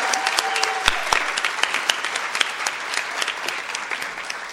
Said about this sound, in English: We also want to congratulate her on her dissertation, so everyone can applaud.